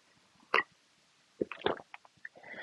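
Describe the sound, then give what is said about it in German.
A few soft slurping sips of warm water, followed by a gulping swallow and small wet mouth clicks, with no one speaking. “Ich nehme jetzt noch einen Schluck von meinem warmen Wasser.”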